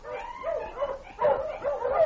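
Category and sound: animal, dog barking and yelping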